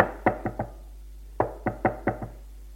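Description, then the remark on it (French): Knocking on a bedroom door: a quick group of three raps, a pause, then a second burst of five knocks, sharp with a slight wooden resonance, and no voices. “L'on frappe à sa porte.”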